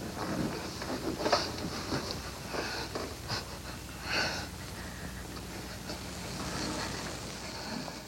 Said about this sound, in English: And that silence and then the little squeaking is them kissing passionately after she's attempted in vain to fight him off and then gives in. It's really quite a moment in the film.